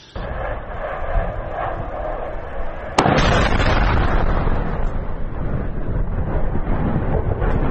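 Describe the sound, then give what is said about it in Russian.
A low, steady rumble breaks into a sudden sharp blast, followed by a louder, continuous roaring crackle like secondary detonations going off, from a strike on a Shahed drone storage, assembly and launch base near the former Donetsk airport, with no voices. “Скорее всего, там была вторичная детонация.”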